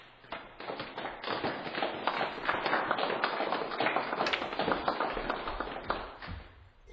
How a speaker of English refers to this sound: A smattering of applause breaks out.